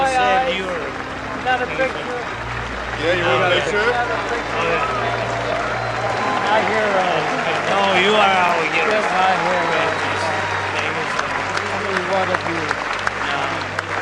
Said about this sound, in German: Wir hören auch ganz deutlich den Applaus des Publikums. Es konnte das Ganze auf großem Bildschirm verfolgen und darauf war dann auch zu sehen, wie sich die beiden Männer fest umarmen.